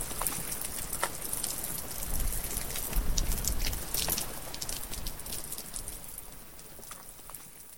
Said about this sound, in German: Es regnet im Hopi-Land. Es könnte ein gutes Maisjahr werden.